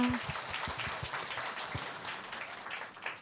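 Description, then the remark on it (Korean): An audience applauds steadily for about three seconds, a dense wash of many hands clapping at an even, moderate volume, with a few low thumps and a brief tone at the start. “여러분들 다시 한번 박수.”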